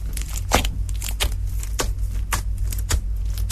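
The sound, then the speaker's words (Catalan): Slime is squished and kneaded, giving a run of irregular sticky squelches and crackly pops over a steady low hum, with no voices. “I aquí està matxacant ja, eh?”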